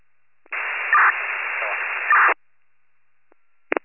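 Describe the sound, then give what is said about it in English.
A burst of radio static from a unit keying up, a steady band-limited hiss lasting almost two seconds with two brighter blips, followed by silence and a short final click of static. “Unit keying up, that's all static.”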